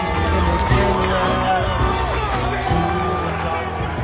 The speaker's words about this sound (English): Oh, listen to the crowd here in Lincoln, Rhode Island.